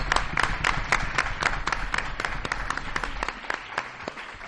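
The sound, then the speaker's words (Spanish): An audience applauds steadily, a dense patter of many hands clapping at a moderate level that continues throughout and begins to thin slightly toward the end. “Les vamos a dar un aplauso.”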